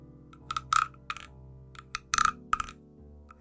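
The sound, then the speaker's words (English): A small wooden frog rattle, its back rubbed with a wooden stick in a few short strokes, giving irregular bursts of dry, clacking rasps separated by brief pauses, with no voices. “I have a little weird wooden frog that makes a rattling noise.”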